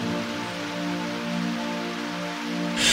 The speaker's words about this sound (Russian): Кап, капли дождя по мостовой.